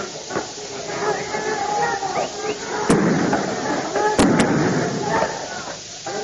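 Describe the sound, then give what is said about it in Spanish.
Tear gas canisters being fired by police in Córdoba at 19:50 during clashes with students: three or four sharp, loud pops, two close together, bursting out over a constant noisy background of crowd commotion and voices. “Escuchan disparos de gases lacrimógenos.”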